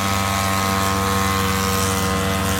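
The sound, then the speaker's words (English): The engine of an Easy Riser ultralight aircraft buzzes steadily and loudly, a droning, nasal whine with strong harmonic tones holding an even pitch throughout, with no voices. “It started popping up in magazine articles and really made a buzz at air shows. Literally.”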